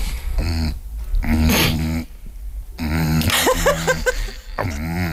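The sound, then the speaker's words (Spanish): A voice imitates a Satisfyer vibrator running out of battery: a series of loud, wavering buzzy hums that sputter and break off, with short silent gaps between the bursts. “es un Satisfyer que se está quedando sin batería.”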